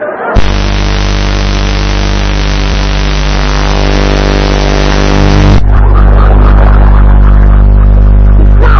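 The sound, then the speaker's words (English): A loud motorcycle engine drones steadily, then abruptly shifts to a rougher, fuller roar for the last few seconds. No one speaks. “If this is a motorcycle and you was in the back, where did Vera sit?”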